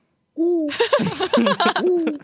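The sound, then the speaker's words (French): A person imitates an owl with a drawn-out vocal hoot, then several shorter hooting calls over a burst of laughter and noisy background chatter, loud. “Est-ce que je peux avoir l'imitation d'un hibou?”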